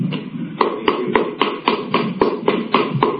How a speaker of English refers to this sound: That's me clapping.